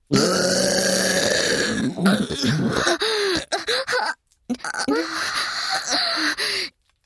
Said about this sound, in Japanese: 大丈夫。私たちは、小さい頃から 人前でゲップをしないようにと厳しくしつけられてきました。たとえ薬の効果であって少しの間ゲップを我慢することくらいできるはず。